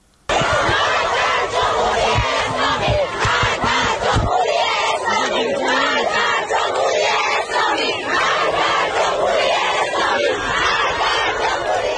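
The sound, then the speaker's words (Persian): Female students at Alzahra University in Tehran, Iran, chant slogans loudly in unison against the leader of the Islamic Republic: rhythmic shouted phrases repeating over a steady roar, with sharp rhythmic accents early on before the chanting settles into a sustained collective shout. “در دانشگاه الزهرای تهران دانشجویان دختر علیه رهبر جمهوری اسلامی شعار دادند و پرچم جمهوری اسلامی را به آتش کشیدند.”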